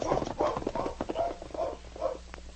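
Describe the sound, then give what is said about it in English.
Horses' hooves clip-clopping along a trail toward Ned's cabin in a steady, rhythmic gait, several animals moving together, with no voices. “Meantime, Sergeant Preston and King, with Ned Small and Jim the constable, rode the trail toward Ned's cabin.”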